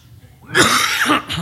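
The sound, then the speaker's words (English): A person lets out a harsh, raspy cough, a rough burst followed by a second shorter hack, with no talking around it. “Man who gets sick and coughs.”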